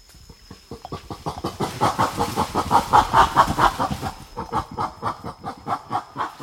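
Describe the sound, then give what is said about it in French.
Female western gorillas in the forest, angry with one another, barking aggressively in a rapid, rhythmic string of harsh, raspy calls that swell to a loud, dense peak midway, then continue in steady pulses without any talking. “C'est les femelles qui se fâchent entre eux. Elles commencent à faire des barques, aboiements fort.”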